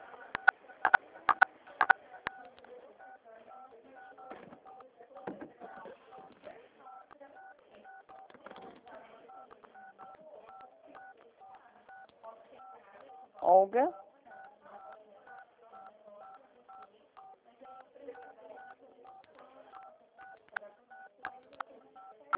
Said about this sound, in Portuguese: Desculpa, não estou entendendo. Acho que tem algum telefone. A senhora está apertando os números.